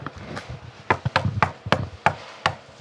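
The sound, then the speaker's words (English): Someone raps on the wooden front door of a house in Los Angeles, a series of about eight sharp, hollow knocks in an uneven rhythm, fairly loud with brief pauses between groups. “Please knock loudly.”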